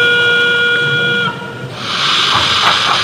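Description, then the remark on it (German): A steady whistle of several stacked tones sounds for over a second, then cuts off and gives way to a broad hissing rush of steam, from a model railway train's digital sound decoder, sounding directly from the model train itself rather than from a loudspeaker. “Durch die Digitaltechnik können nicht nur viele Züge gleichzeitig über eine Anlage fahren, sondern klingen auch noch täuschend echt.”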